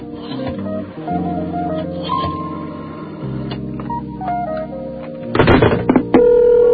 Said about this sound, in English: Oh, the phone's ringing. Oh, really?